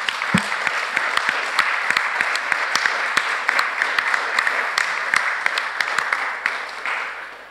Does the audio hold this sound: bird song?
no